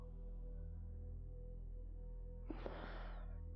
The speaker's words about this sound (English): You find your breathing getting in time with it. The hypnotic effect of each in and out breath of this cigarette as I draw it further in, savoring it on my tongue, dragging it into my lungs